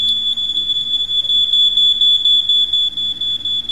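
smoke alarm going off

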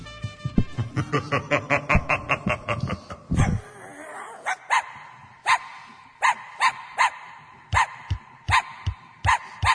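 small dogs barking

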